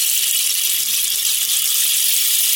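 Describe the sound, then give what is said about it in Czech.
A handmade rain stick made from black elder wood is shaken right at the microphone, producing a steady, bright hissing cascade of tiny pattering grains that stays fairly loud and even throughout, with no voices. “A tady nastal možná ten správný čas, že zvuk té dešťové hole bych vás poprosila, jestli byste zkusil napodobit úplně k mikrofonu.”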